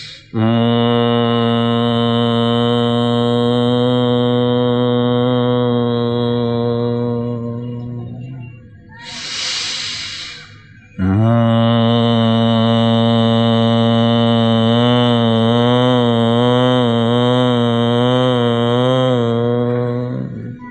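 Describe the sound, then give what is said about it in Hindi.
During Bhramari pranayama, with both fingers placed in the ears, a voice hums a long, steady low-pitched Om through the nose, holding it for about eight seconds, then a deep breath is drawn in before a second sustained hum of equal length. “कानों में उंगली ऐसे डाले कि ज़्यादा दबाव ना हो और बाहर का आवाज़ ना आए, ऐसे दोनों उंगली डाल दे, गहरा श्वास ले और फिर नाक से ओमकार का गुंजन करे।”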